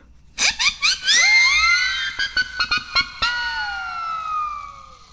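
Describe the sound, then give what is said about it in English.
A double siren whistle, made of two siren whistles glued to a PVC T coupling, blown in several short, loud puffs, then longer blasts whose shrill, overlapping tones rise and slowly slide downward as the breath fades. “Yeah, I took 2 siren whistles and a PVC T coupling, and I glued the siren whistles to the T coupling so I have a double siren whistle, and I can make crazy sounds like this.”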